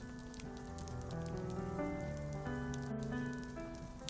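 Steady rain patters continuously on a surface, with scattered droplet ticks, while soft sustained musical tones drift underneath at an even, gentle level.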